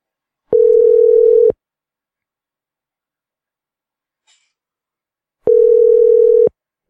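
A telephone line tone as a call is placed: a steady, mid-pitched electronic hum sounds for about a second, stops for several seconds of silence, then sounds once more. No one speaks.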